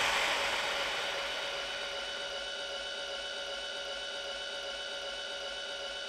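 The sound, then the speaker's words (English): A heavy sci-fi airlock door grinds slowly open with a sustained mechanical whir and layered tonal hum, loudest at the start, then holding steady for several seconds with no voices. “Why is that door so slow?”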